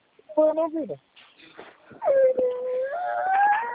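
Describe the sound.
A baby whimpers in two drawn-out, wavering bursts, a short whine followed by a longer one that rises in pitch. It sounds clear, with faint muffled voices around it, heard in the background of a phone call.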